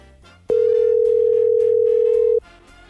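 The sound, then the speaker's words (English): A single loud, steady ring tone of an outgoing phone call sounds for about two seconds over soft background music, then cuts off. “I'm going to get him on the phone and see how he's feeling, see what's going on with this COVID stuff, and what he's looking for now in the Stanley Cup playoffs.”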